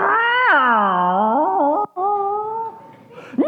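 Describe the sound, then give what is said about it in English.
A voice imitates a bunch of cats meowing outside: a long, wavering yowl that rises then slides down, a brief break, then a second drawn-out meow ending in a quick upward cry, loud. “And of course, there's a bunch of cats outside doing what cats will do.”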